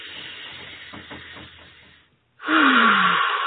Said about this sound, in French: Wow, on laisse tout aller. Tout aller. Et pendant que je fais cette respiration-là, ou ces respirations-là, je suis vraiment en train de revoir où est-ce que je me situe dans ma gradation.